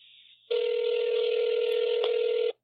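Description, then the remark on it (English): An electronic telephone ring: a brief high tone, then a loud, steady, buzzy ring burst lasting about two seconds before cutting off abruptly. No one speaks. “I hope it never stops ringing.”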